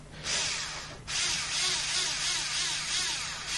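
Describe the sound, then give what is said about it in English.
An electric drill whirs steadily while driving in a screw, briefly pausing after the first second before resuming a continuous, fairly loud high-pitched buzz. “Just the electric drill in.”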